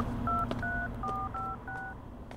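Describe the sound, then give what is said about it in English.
A phone keypad dials a number to make a phone call: five quick two-tone beeps in a steady sequence, clear, over a low background hum. “I need to make a phone call.”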